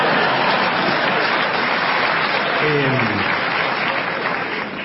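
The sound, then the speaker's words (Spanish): Steady, dense applause from a crowd of adults in the room fills the whole stretch, loud and even, with a brief voiced call rising out of it midway before the clapping tapers slightly at the end. “Hay gente grande en la sala, los que aplauden.”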